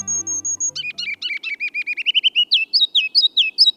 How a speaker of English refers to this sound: It's spring, and the ruby-crowned kinglet's loud, rollicking song echoes from the forest edge in northern and western lowlands. Listen carefully, and you can hear three distinct parts of its song.